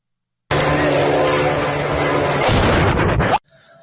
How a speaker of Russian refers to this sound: 4 часа утра, Цимлянск, что-то взорвалось сильно. Где взрыв?